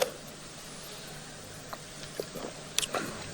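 Someone sips water: a few soft, wet mouth clicks and a gulp over a low background hiss, faint and irregular, with no talking.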